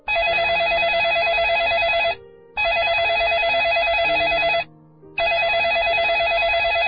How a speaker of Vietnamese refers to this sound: Tiếng chuông điện thoại vào 2 giờ sáng đã làm Phong tỉnh dậy